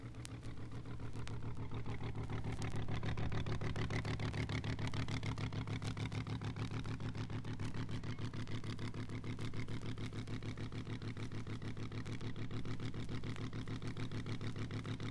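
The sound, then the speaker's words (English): Powerful supercharged race car engines idle loudly and steadily, a deep rumbling throb with a fast, lumpy pulse that holds at a constant level throughout, with no talking. “Hey, supercharged on the go. Herb Reese apparently losing the power”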